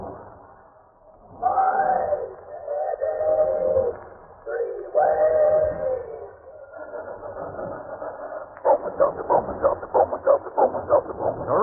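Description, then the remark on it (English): A talking steam train sound effect in a radio commercial for Bromo Seltzer: wavering whistle-like tones give way to a fast, steady chugging rhythm, heard through a thin, tinny old-broadcast sound with no other voices. “But when it comes to our talking box pop train, his one mission in life is to give you sound, sensible advice, like so.”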